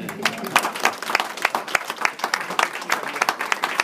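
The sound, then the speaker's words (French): A group applauding together, a dense patter of many hands clapping steadily at a moderate level for a few seconds, with no speech over it. “Un petit applaudissement collectif, non ?”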